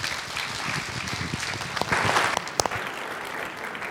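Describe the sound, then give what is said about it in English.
A crowd applauds a group of kids steadily, a dense wash of many hands clapping with a few sharper claps standing out near the middle, holding an even loudness throughout. “Y'all give those kids a big round of applause.”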